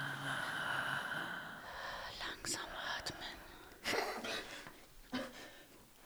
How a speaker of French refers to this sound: Respiration lente.